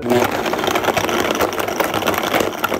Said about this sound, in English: Actually, it's this sound that means morning to me. The dulcet tones of frozen bananas getting ground up. That's pretty much the only way I consume bananas these days, in a blender with some other ingredients.